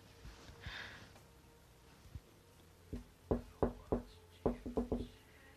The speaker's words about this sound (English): That's such a fucking weird knock. Why'd I do that?